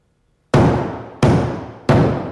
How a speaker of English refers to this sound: Where's the hammering coming from? Stop the hammering! Somebody go up there and stop that hammering!